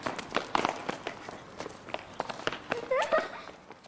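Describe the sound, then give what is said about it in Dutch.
Quick, irregular footsteps of children running over the ground, patting and thudding in an uneven flurry, with brief high-pitched children's voices calling out among them. “Kinderen zoals jullie renden over mij heen.”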